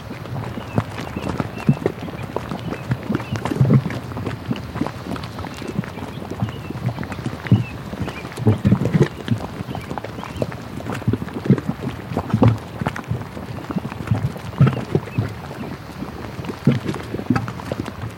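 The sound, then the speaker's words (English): Thick thermal mud pots at Fountain Paint Pots bubble and pop continuously as heat and gases release through the mud, a dense stream of low, wet plops and gurgles with irregular rhythm, some bursts louder than others, with no voices present. “One of my favorite things to record are the mud pots.”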